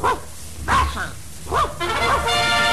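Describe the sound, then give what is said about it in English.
The dog Handsome Dan barks three times in quick succession, sharp, with a brief pause between each bark, in reply to being asked his favorite college. Faint background noise and a sustained musical tone creep in near the end. “Harvard is guilty of dog-napping”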